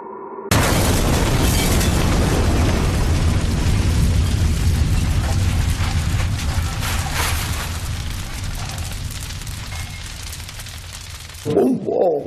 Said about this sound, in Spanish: Así, a ciegas, una caja de cartón anónima, 6 kilos de goma 2, estallan en la puerta de la Aldana, del bar de Garbi.